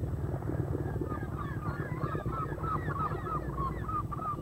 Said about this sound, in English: Another type of craft seen in the waters of this community travels in a convoy of seagulls. Out of the bays and inlets, gulls follow the commercial fisherman to and from his nets, feeding on the remnants of his catch.